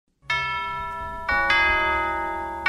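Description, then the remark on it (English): A deep tolling bell rings out loudly, struck once and then twice more in quick succession, each strike leaving a long, shimmering metallic decay with no voices present, at the start of a song. “Who's there? This would be an awesome doorbell.”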